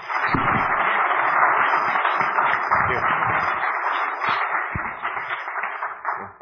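Steady applause from a crowd at a speaking event, welcoming a speaker to the stage, a dense, even wash of clapping that holds at a fairly loud level for several seconds, with a few low thumps mixed in, before easing slightly at the end.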